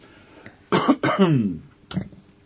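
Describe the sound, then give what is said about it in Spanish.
A raspy cough in a couple of harsh bursts, followed a moment later by a shorter cough, with no talking around it. “Y yo paseando y compartiendo mi tos también.”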